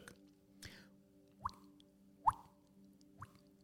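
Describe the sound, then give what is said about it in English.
Someone makes water-drop sounds with their mouth: four hollow, rising plops spaced about a second apart, the third loudest, over a faint steady hum with no talking. “I can make a sound of a water drop.”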